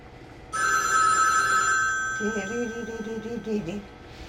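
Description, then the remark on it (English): A telephone bell rings out loud in one sustained burst, its bright metallic tone fading a little as a voice starts talking over it. “I got the ring in this phone.”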